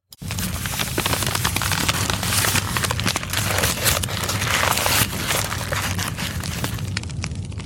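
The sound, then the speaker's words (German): A large fire of books, dragged in sacks and stacked up, roars steadily, thick with sharp crackles and pops throughout, loud and continuous for the whole stretch with no voices. “In Säck angeschleift und aufgeschichtet. Und jetzt landen sie im Feuer.”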